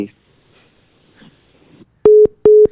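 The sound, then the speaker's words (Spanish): Two loud, steady electronic beeps of a phone busy tone, evenly spaced, after a caller's cell phone is cut off, following a moment of faint murmuring and quiet background noise. “Cabrón, le cortaron el celular,”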